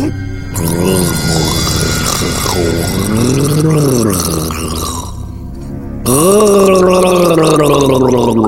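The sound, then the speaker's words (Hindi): A person gargles to clear the voice, with a wavering, throaty gurgle that rises and falls in pitch, pauses briefly, then resumes louder and steadier. No words are spoken. “अभी अभी अभी अभी हम ये अपना आवाज ठीक करते हैं मैडम जी।”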